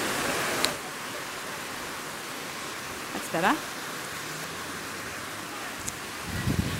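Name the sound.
rain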